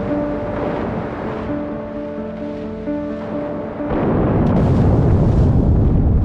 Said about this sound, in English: HMS Batard and three other warships are on the scene by 10 a.m. and spend the next 10 hours hunting and depth charging the U-boat.